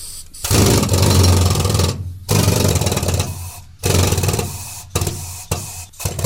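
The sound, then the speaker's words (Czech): A loud pneumatic rock drill with a 3-metre bit, run on compressed air in a mine tunnel to bore blast holes, rotates with hammer action in several bursts, each a dense, rattling roar lasting about a second or two, separated by brief pauses where the air cuts off. “Pouštíme vzduch. Vrtačka se otáčí a zároveň má i příklep.”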